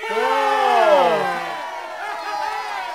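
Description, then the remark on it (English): A crowd cheering sound effect: a loud, sustained burst of many overlapping voices cheering and roaring that peaks early, then dies down into a fainter lingering murmur of cheers. “Lately, the crowd has really loved the guests.”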